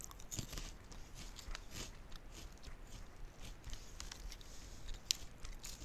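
Quiet chewing of a crunchy snack, a steady run of irregular crackly crunches and bites lasting several seconds with no talking.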